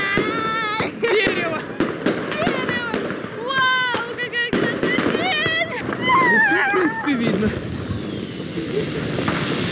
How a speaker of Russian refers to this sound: В честь нас салют.